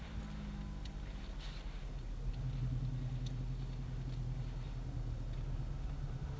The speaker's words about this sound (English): Watch it, there's a car coming.